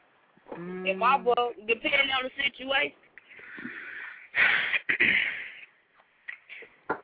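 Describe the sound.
A woman clears her throat close to the mic, several raspy, voiced grunts followed by two harsher, breathy hacks, with brief pauses between them.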